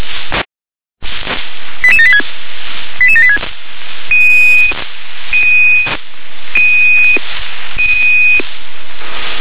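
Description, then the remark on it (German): Dispatch alarm tones over a hissy, narrow radio channel: two quick bursts of stepped chirping tones, then four long, evenly spaced steady beeps, fairly loud against constant static. “Und jetzt zur Notöffnung. Das Alarm der Straße.”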